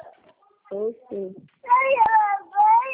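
A small child cries in short whimpering bursts that swell into longer, high-pitched wails, moderately loud, heard over a phone call, with no clear talking.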